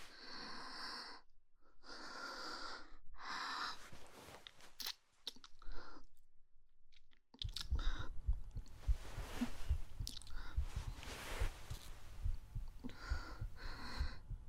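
fast heartbeat

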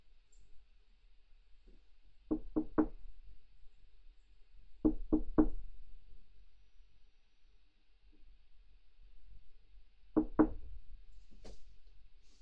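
knocking on a door

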